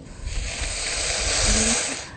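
Water hits a hot pan with a loud, steady sizzling hiss that holds for a couple of seconds, swelling slightly before easing off, with faint bubbling underneath and no voices.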